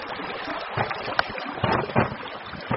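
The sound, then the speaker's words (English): Steady rushing water from the Hudson River, here a fast mountain stream half covered in ice, flowing beneath a shaky little cable bridge while light snow falls; a dense continuous roar with a few brief louder surges and no voices. “This far north, the Hudson is a muscular mountain stream, half covered in ice.”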